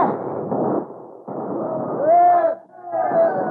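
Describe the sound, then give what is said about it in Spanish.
A rough clamor of gunfire bursts mixed with cowboys yelling and hollering, loud, the shots and shouts overlapping in a chaotic rush with a brief lull near the end, as the cowboys fire together to stampede 10,000 cattle. “10,000 reses espantadas por los gritos y disparos de los vaqueros lanzaron en tropel hacia la colina por donde bajaban los rebaños de ovejas.”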